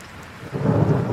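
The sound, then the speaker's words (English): A deep thunder rumble swells in after a moment of steady rain, rolling low and heavy as the storm builds, with no voices over it. “I love it until you get right underneath it and you get that pressure wave from the thunder.”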